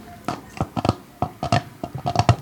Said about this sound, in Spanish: Suena como si fuese una rana. ¡Se me ha metido una rana en la cama! ¡Qué asco! ¡Sácala de aquí!